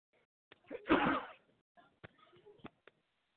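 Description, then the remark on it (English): A single loud sneeze bursts out, followed by a few soft clicks and rustles as things settle down; no talking. “Wow, sneezed on the intro. Sorry.”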